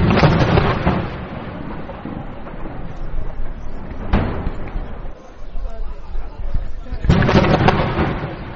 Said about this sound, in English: The sound of artillery fire rang out like thunder over the refugee camp for hours with little pause.